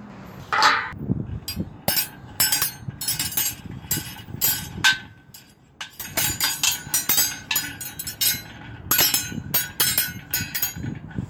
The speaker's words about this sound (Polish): Dźwięk pierwszy w życiu cymbałków, które otrzymałem w dzieciństwie na urodziny. Nie umiałem na nich grać, ale mogłem eksperymentować jak chciałem.